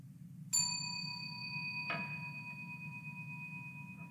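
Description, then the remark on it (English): A meditation bell is struck once to begin a Tonglen meditation practice and rings out with a clear, sustained shimmering tone, followed by a softer second strike that blends into the long fading resonance over a low background hum. “It will commence and end with the ringing of a bell.”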